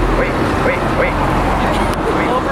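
Steady, loud roar of traffic on Aurora in Seattle's Licton Springs neighborhood, vehicles rushing past, a continuous low rumble filling the scene with no clear breaks.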